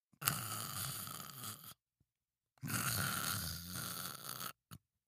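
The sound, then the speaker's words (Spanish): Two long, raspy snores imitated by a voice as Pinocchio pretends to snore in a carriage, each a rough, noisy rattle lasting a second or two, separated by a short pause, with a brief snort at the end. “Florencio se asomó a ver si Pinocho seguía dormido y, por supuesto, Pinocho, muy listo, hizo como que roncaba.”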